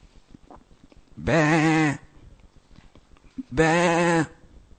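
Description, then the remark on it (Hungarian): Someone imitates a sheep, giving two loud, wavering bleats about two seconds apart, each lasting under a second, with faint background noise between them. “És aztán megtaláljuk valahol, Betlehemnél, a mezőn, a legelőn, ahol ott van, tudod, 15 juhocska.”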